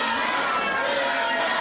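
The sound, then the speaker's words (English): Children of the yellow team cheer and shout together, a dense, steady wash of high-pitched voices held at an even loudness for the whole short stretch. “Thousand points to the yellow team for cheering.”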